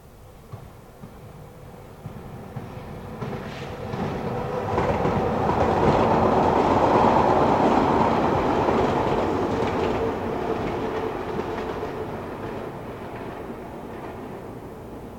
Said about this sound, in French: Un train hurla dans la nuit, un appel déchirant, incisif, comme un coup de couteau. Le convoi passa dans un tonnerre d'acier.